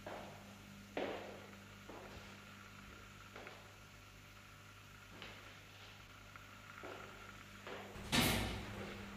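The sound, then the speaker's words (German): A door opens with a loud whoosh and clunk near the end as someone comes out of an in-vitro research lab area, preceded by several soft thuds, like footsteps approaching, over a steady low mechanical hum indoors. “Oh, warte, da kommt jemand gerade raus. Ah, das ist aber das In-vitro-Glas-Ding. Schnell, bevor die Tür schließt.”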